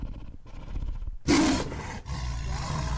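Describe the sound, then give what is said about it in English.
A white tiger with brown stripes at a shelter for rescued animals lets out a deep, rough roar that bursts in loudly after a low rumbling growl, then trails into breathy, rumbling grunts. “Here we met the tigers.”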